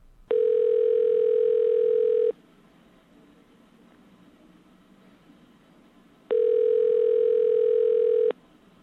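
A telephone ringback tone of a call to a payphone at Union Station, a train station: two steady, buzzy ringing bursts of about two seconds each, separated by a four-second pause of quiet line hiss, with no one talking.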